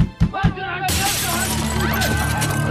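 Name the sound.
glass shattering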